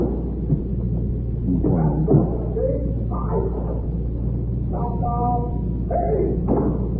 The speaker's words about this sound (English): Again, and of course that means time to close up CBS for the weekend. Famous locking the door ceremony.